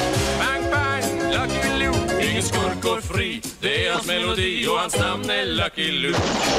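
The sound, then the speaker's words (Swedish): Several sharp gunshot bang sound effects, Lucky Luke style, crack out at irregular moments over busy, loud music and voices, each shot a brief, punchy burst standing out from the dense backdrop. “Pang, Lucky Luke.”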